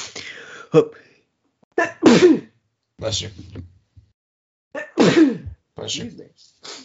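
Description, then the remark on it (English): A person sneezes loudly, a couple of sharp bursts separated by short pauses, with quick intakes of breath and small vocal noises between them. “Bless you.”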